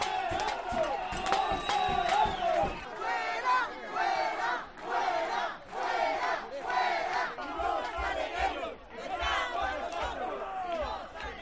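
Neighbours in a cacerolada march from Plaza de San José and stop before a drug flat on calle Washington. The crowd shouts and chants in steady rhythmic bursts while frying pans and pots clang sharply, the metallic banging loudest at the start, then carried along under the loud, continuous chanting.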